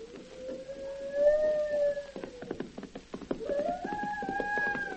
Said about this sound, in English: The sun gradually sinks below the horizon. The moon comes up. The only sound is the occasional wail of a wolf or coyote.